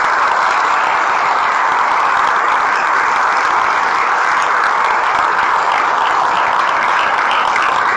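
Sustained applause from a large audience of couples at a talk on marriage, applauding God as the inventor of marriage; a dense steady wash of many hands clapping at once, loud and continuous for the full eight seconds with no talking.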